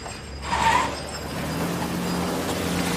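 A car darts off quickly after a passenger exits and the door is closed, a brief rushing burst at the start giving way to a steady, rising engine drone that holds through to the end. No one speaks.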